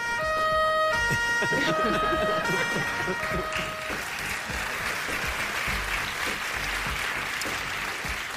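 police siren

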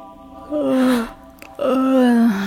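woman gasping

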